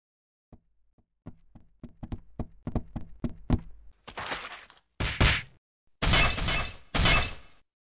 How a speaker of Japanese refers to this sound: 妙な音がする。 何？今の音。 この屋敷は屋敷中にからくりが仕掛けられている。今の音は壁が落ちた音に似てるみたいだ。